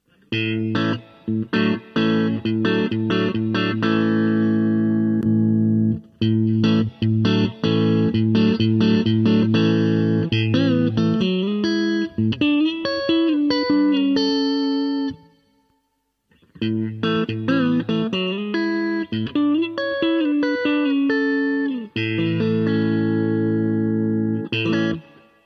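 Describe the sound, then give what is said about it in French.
An electric guitar plays sustained chords and short melodic runs through a Strymon pedal in Fender Deluxe mode, with mixing-console reverb switched on and the pickup selector in position 4, between neck and middle pickups. The tone is reverberant and slightly effected, steady, pausing briefly partway through before continuing. “Donc là, je n'avais pas activé la reverb au niveau de la console de mixage. Je l'active, histoire qu'on ait un son un petit peu moins séco quand même.”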